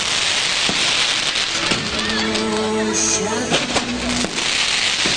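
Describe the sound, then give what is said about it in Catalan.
A castell de focs fireworks display on Ash Wednesday, nearing its end: steady crackling hiss throughout, punctuated by several sharp bangs, with a sustained whistling, droning tone rising over the noise midway before fading. “Ens trobem en aquella situació habitual de cada dimecres de cendra, d'intentar narrar un castell de focs.”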